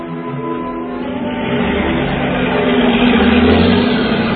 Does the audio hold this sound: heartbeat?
no